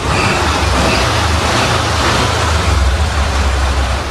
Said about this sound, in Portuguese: Inconfundível, né, Macedo? O motor de um Fusca. Fusca, que é o grande assunto do Gaúcha Hoje essa semana.